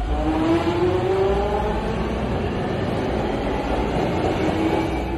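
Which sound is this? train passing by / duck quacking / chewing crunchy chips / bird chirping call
train passing by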